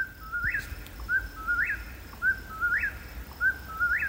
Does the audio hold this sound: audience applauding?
no